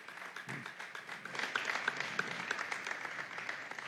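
A church audience applauds moms steadily, a dense patter of many hands clapping at even loudness for several seconds, with a few whoops and cheers rising above it.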